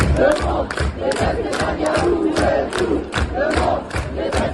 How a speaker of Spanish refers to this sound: Se escuchan gritos de todo el mundo: detesta a Netanyahu, y la tensión ha crecido al irrumpir manifestantes proisraelíes.